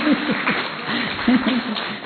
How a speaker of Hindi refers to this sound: अच्छा, देखो 80 साल से ऊपर। वाह भाई, खड़ी हो जाओ, खड़ी हो जाओ। 80 साल से ऊपर, देखो इनके लिए ताली बजाओ।